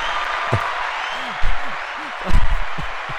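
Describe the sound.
An applause sound effect: a steady, dense wash of clapping that holds for a few seconds, with a few short low voice-like calls and thumps breaking through underneath.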